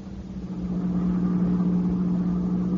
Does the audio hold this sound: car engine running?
yes